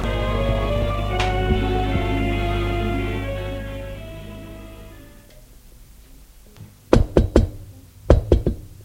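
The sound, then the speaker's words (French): Two quick bursts of three sharp raps on the door of a room, crisp, ring out after a steady droning hum fades away into near silence. “Une fois qu'il est habillé, il frappe à la porte de la pièce.”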